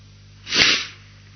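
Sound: human sneeze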